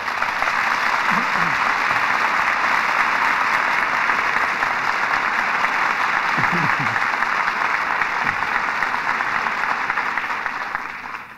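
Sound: studio audience applause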